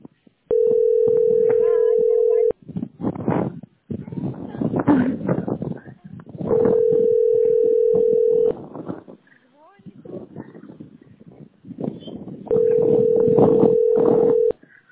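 A telephone ringback tone sounds three times as a man calls a woman, each steady two-second buzz spaced several seconds apart with no answer, while people talk in the pauses between rings.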